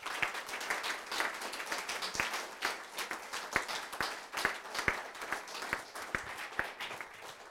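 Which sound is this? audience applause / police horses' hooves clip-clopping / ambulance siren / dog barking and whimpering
audience applause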